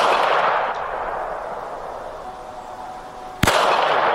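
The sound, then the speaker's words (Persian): Security agents fire at protesters in Sanandaj, Iran, while violently arresting a young protester: a single sharp, loud gunshot cracks out near the end over a steady wash of outdoor noise, with a couple of faint pops earlier on. Nobody speaks. “اینجا در سنندج در حالی که ماموران با خشونت یک جوان معترض را دستگیر کردند، به معترضین دیگر شلیک می‌کنند.”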